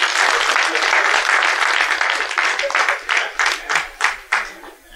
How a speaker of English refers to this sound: Give the Lord a hand clap for prayer.